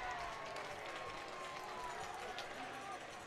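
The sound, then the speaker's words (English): A baseball crowd applauds steadily during a game, a dense wash of clapping that holds at an even level throughout, with a faint murmur of voices underneath. “The applause there may be a slightly sarcastic.”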